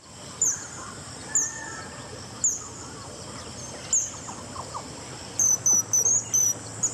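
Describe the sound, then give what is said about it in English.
An azure kingfisher gives thin, high-pitched single calls every second or so, then a quicker burst of several piercing notes near the end, over a steady hum of buzzing insects. “the sound we heard, the tweet we heard, was the azure kingfisher”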